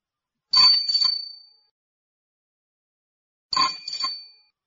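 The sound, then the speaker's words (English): A bicycle bell rings twice, each ring a quick bright double ding with a short shimmering tail, separated by a few seconds of silence. No voices are heard. “Is this a car? No, it's a bike.”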